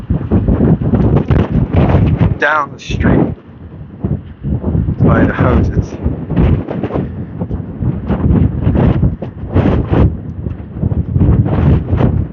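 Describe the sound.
Strong wind gusts from the gust front of a passing weather front, coming from the west and funneled down a street, roar and buffet the microphone almost continuously, a loud, rumbling blast of air, while a man keeps talking over the noise.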